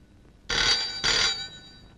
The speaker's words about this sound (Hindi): ओ ये लो, यो फोन आया।